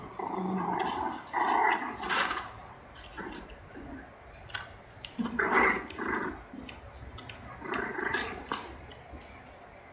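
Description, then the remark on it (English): Five-week-old puppies growl in short, scrappy bursts while they play-fight with stiff little tails, the squabbling coming in irregular flurries throughout, with no one speaking. “Look at how stiff their little tails are. Yeah, they're like 5 weeks old.”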